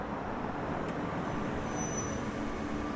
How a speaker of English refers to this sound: Suddenly, there's a car coming down the driveway.